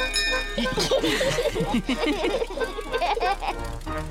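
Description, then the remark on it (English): A boat's bell, rung by Peppa Pig, rings with steady, sustained tones throughout, partly masked by children's lively voices and giggling. “Peppa, ring the bell.”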